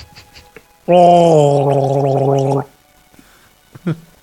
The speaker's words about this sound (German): Wann stellst du dir ein Glas Wasser hin, damit du dich nicht immer räuspern musst? Jetzt. Gurgel mal. Komm mal.